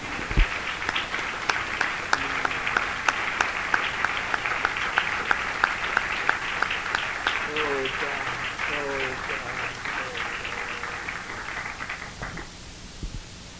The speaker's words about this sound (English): Hallelujah. Yes, let's clap our hands unto the Lord.